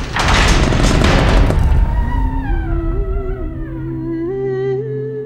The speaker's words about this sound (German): Mutig öffnet er die Tür des Schlosses.